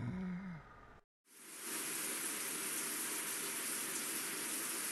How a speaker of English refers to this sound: I feel the soft patter of water on my head. I look up at the small holes that project the only light I can see. Water is coming through, raining on me.